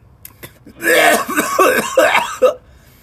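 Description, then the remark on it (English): A loud, wet, phlegmy coughing fit: several rough hacking bursts in quick succession, with a raspy, throat-clearing quality and no talking. “Some moist cough core beats.”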